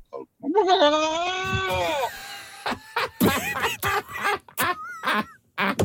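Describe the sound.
Two people imitate a turkey gobbling together as a duet, loud: a long, wavering, bleat-like call, then a rapid run of choppy, warbling gobbles.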